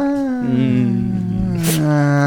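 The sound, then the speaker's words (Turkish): A voice imitates a siren with a steady, loud, tonal wail that holds a sustained pitch, then shifts slightly, lasting about two seconds with a brief breathy burst near the end. “Onun siren sesi o yaptı.”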